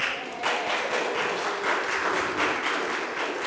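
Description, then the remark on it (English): An audience in Oxford claps steadily throughout, a dense, sustained patter of many hands at moderate loudness with no voices rising above it. “Let's see if all y'all are still clapping at the end.”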